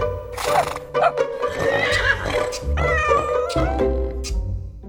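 A horse whinnies in several loud, wavering bursts, set against a steady low tonal backdrop that sounds like music; no one speaks.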